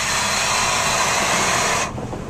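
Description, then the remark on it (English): A power saw started by Andy Saylor on the Cat 5 tables roars with a loud, steady, hissing motor whine for about two seconds, then cuts off abruptly, leaving a lower rumble as it winds down. No one speaks. “There's Andy Saylor starting a saw on the Cat 5 tables.”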